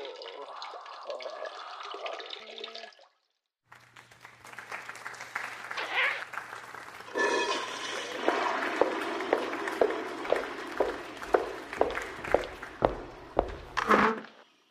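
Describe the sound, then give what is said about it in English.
A man urinates into a toilet, picked up by his microphone left on: a steady, hissing stream of liquid splashing into water for about ten seconds, with rhythmic spurts, over a low electrical hum, after a few seconds of muffled voices. “Well, now that the bladder's empty, I'm feeling pretty good.”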